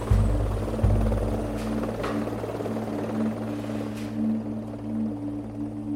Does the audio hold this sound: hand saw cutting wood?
no